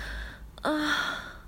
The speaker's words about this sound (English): Imagine it's her soft breathing, panting.